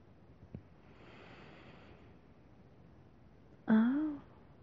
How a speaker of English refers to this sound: Now, I'm just going to give them a quick sniff.